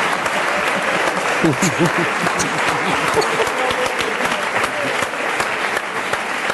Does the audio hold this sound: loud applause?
yes